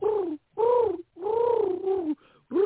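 A dove coos in a series of low, mellow, rounded calls, each swelling and falling in pitch, with brief pauses between them and no voices present.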